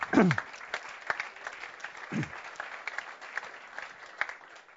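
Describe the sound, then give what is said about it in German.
An audience at a church community gathering claps steadily for several seconds, a dense patter of many hands, with a couple of brief low voiced sounds breaking through near the start and middle; the applause honours someone who made items handed out to the audience. “Könnt ihr auch mal klatschen, ja.”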